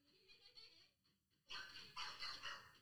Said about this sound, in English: So they've got a balloon that they've released their dog on, and the dog's like losing its mind, right? He's just come in the room. Okay. And now he's kind of running around. Oh, he ran into the dresser.